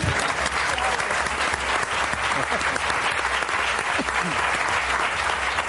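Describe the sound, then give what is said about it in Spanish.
Sustained applause from an audience for guests Javier Cansado and Pepe Colubi, a dense, steady wash of many hands clapping at an even loudness throughout, with no pause or fade. “Y ahora ya un aplauso conjunto para nuestro Eduard Punset de la Risa, Javier Cansado y uno de los mejores cantantes brasileños de Esplugas, Pepe Colubi.”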